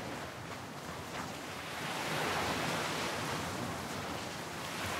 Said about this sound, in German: Du hörst das sanfte Rauschen der Wellen, während sie über den Strand und deine Füße sanft hinüberrollen. Und du siehst so, wie sie sich langsam wieder zurückziehen in das Meer.